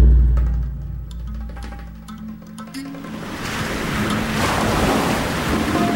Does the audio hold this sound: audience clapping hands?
no